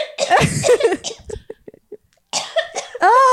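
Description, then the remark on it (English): A voice imitates a mother's dry cough: a harsh burst, a few short clipped huffs, then another rough cough ending in a drawn-out voiced sound. “Sometimes my mom will cough and go.”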